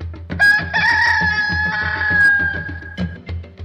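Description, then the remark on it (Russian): A cockerel crows loudly, one long drawn-out call lasting about three seconds, with a steady low rumble underneath. “Воевода говорит: петушок опять кричит.”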